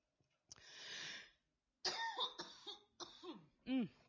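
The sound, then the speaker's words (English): A raspy burst of throat clearing from a dry throat, a short pause, then several rough coughs in quick succession, loud and alone without any talking. “Excuse me, my throat's getting dry.”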